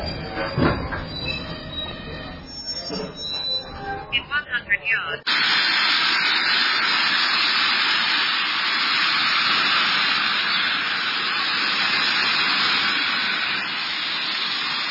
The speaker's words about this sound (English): And we've just arrived at Loughborough Station.